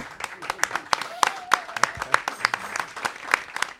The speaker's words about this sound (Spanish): Muchísimas gracias, un lujo, la verdad que sin palabras me han dejado. Otro aplauso, fuerte aplauso.